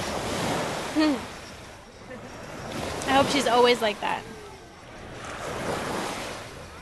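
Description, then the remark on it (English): Waves break and wash steadily onto a beach in a broad, rushing surge, with some wind noise, while a person speaks briefly over the surf in the middle. “We're at the beach, you know.”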